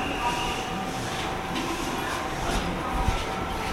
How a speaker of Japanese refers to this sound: 本日も地下鉄東日本線ご利用いただきましてありがとうございます。この列車は11時55分発の星岡栄名古屋方面の高畑駅です。